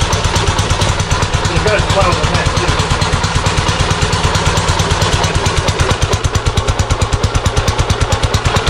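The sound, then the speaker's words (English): A 1936 Ariel VB vintage motorcycle with a fishtail exhaust is kick-started and its engine runs, loud and steady, with a fast, even thumping beat and a rattly, clattering tone that holds for the whole stretch. “we're going to try and start this aerial VB 1936. All right, give it a kick. First kick.”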